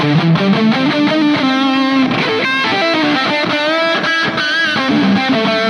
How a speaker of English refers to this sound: I've always loved this tone, and it's like a distortion, overdrive, delay.